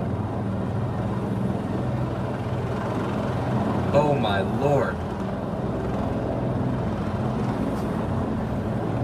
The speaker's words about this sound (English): This is a helicopter literally landing on the east front of the Capitol. I've never in my life seen this before. I've been up here a long time. Again, a helicopter landing on the east front of the Capitol. A U.S. Park Police helicopter.